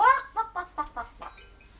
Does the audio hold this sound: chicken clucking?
yes